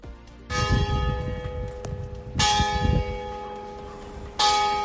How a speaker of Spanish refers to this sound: Las campanas de la iglesia de Luanco ya funcionan con normalidad.